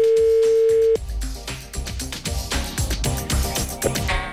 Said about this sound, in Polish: I tu nie ma co ten teges specjalnie się roztkliwiać ani rozwodzić nad nie wiadomo czym, tylko od razu wykręcamy numer i dzwonimy do...